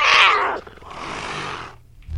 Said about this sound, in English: Curious cat. That sounds like a pissed off cat.